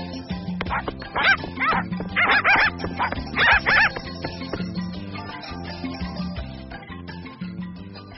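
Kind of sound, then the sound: animal, puppies barking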